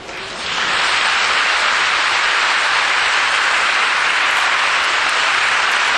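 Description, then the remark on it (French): An audience bursts into applause when invited after a prayer about the Holy Sacrament, a dense, steady wash of many hands clapping that swells quickly in the first half second and then holds loud and even without any voices. “Maintenant, vous pouvez applaudir.”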